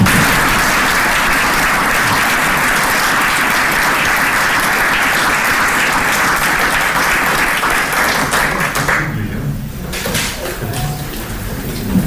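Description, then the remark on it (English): An audience at the close of a meeting claps steadily and loudly for the panel and presenters for about nine seconds, a dense wash of applause that then thins out and fades as the clapping dies down. “And before we do so, I'd like to thank the panel and the presentations and give them a final and warm applause.”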